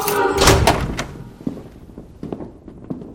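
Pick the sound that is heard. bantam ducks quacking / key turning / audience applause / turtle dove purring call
key turning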